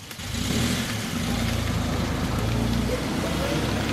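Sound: car driving past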